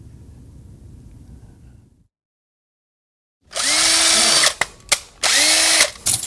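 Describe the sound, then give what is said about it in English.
A power drill whirs loudly in two sustained bursts separated by short stutters of the trigger, following a low rumbling murmur and a moment of silence. “As long as you know where to drill and where to do and what to do, it just takes time to basically crack anything.”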